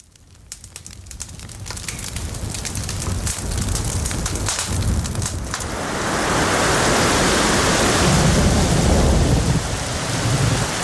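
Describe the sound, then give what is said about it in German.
Steady rain pours down in a dense, hissing wash, with low rumbling thunder rolling underneath; the downpour grows heavier and fuller partway through, with no voices present; a thunderstorm soundscape used as a sleep aid. “Ganz klassische Beispiele sind ein knisterndes Lagerfeuer, Regengewitter oder das Rauschen vom Meer.”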